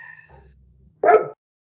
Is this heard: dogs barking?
yes